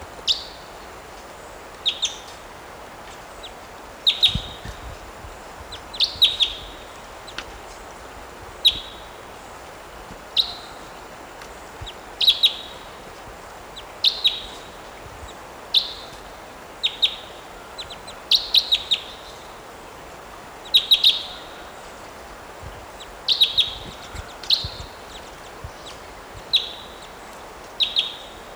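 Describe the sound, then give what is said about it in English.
A wild type two bird that has just flown in at a net site calls over and over, short high-pitched chirps repeating every second or two in a steady, sharp rhythm against a quiet background, with no voices. “Type two bird just flew in here.”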